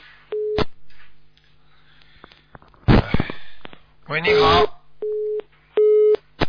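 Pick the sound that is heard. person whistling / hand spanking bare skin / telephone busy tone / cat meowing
telephone busy tone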